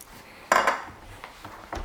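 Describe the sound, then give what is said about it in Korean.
Metal cookware clanks as a frying pan and pots are handled while getting ready to cook aglio e olio with clams: one loud, ringing clatter, followed by a few lighter knocks and scrapes, with no talking. “프라이팬 하나랑”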